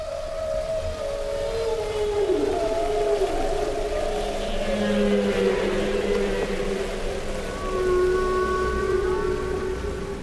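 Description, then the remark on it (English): Humpback whale song: long, sliding moans and wavering tonal calls that rise and fall, overlapping in a continuous underwater chorus with a steady hiss beneath, no voices present. “listen to Katy Payne's recordings of the songs of humpback whales”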